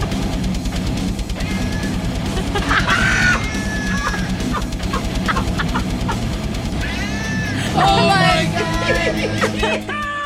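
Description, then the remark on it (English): A cat band performs: a dense chorus of overlapping cat meows, rising and falling in pitch like a sung melody, repeats over a steady, busy musical backing, loud throughout. “Either lame-ass cat band or sweet-ass songbird.”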